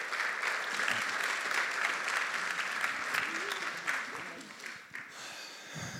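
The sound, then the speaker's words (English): A crowd claps steadily with a dense, continuous patter of applause, mixed with scattered cheers and murmuring voices, cheering on a couple as they come forward to be prayed for, fading slightly toward the end. “And let's cheer them on as they come.”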